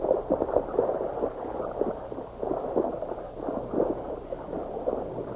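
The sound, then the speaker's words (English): Two horses, slowed to a walk, wade through a shallow creek east of Copper City, their steps churning up a steady run of sloshing, gurgling splashes, with no voices. “East of Copper City, Jeff Sorrell and Ozark slowed their horses to a walk. Easy now, easy. And guided the animals into a shallow creek.”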